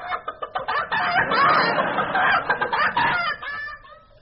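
A chicken clucks in quick, choppy bursts, then breaks into a louder, drawn-out squawking cackle before trailing off, close and fairly loud with no talking.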